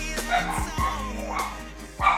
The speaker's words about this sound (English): Oh, my dog's going to take just this very moment to start barking. It may stop here pretty quick. Nice. Just when I'm going to start recording, they're going to start barking.